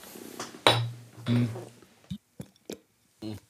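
glasses clinking

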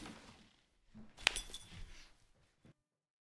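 beer glasses clinking

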